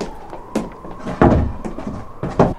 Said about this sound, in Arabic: أيها الحارس اغلق علينا الباب واذهب لعملك ريثما أستجوبه، سأنادي عليك عندما أريد الانصراف.